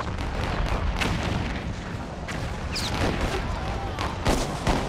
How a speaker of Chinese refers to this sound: 1861年4月12号破晓，美国南北战争打响了。一枚炮弹呼啸住飞过南卡罗来纳查尔斯顿港的天空，在位于查尔斯顿一个岛上的美国联邦军事基地萨姆特堡上空爆炸。